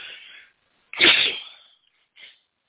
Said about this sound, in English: Wow. I'm not even going to say I'm under attack tonight. I'm just going to say I'm sneezing a lot tonight. And God bless you for staying on board. I promise you will not catch the cold.